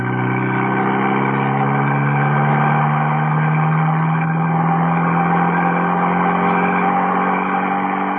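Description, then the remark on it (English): A car engine drones steadily and loudly as the car races up the main road towards the Tarragon Bullring in pursuit, its pitch rising and falling gently with speed changes. No voices are heard. “Baron and Mrs. Peel in the second car.”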